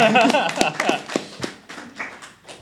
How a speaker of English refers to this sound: Thank you. Oh, now you applaud.